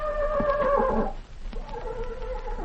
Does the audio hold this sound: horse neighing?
yes